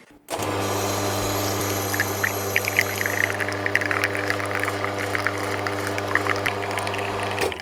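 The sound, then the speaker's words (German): Coffee with crema pours into a cup under a steady, droning machine hum, with hissing and gurgling liquid sounds running continuously for about seven seconds. No one talks. “Und wir gießen jetzt auch, und zwar die Crema in die Kaffeetasse.”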